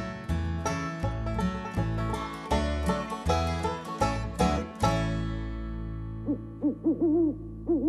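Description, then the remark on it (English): Strummed musical chords from a song about an owl play for about five seconds, then ring out as a few wavering owl-like hoots sound near the end over the fading music. “Who are you? That's how an owl says howdy-do.”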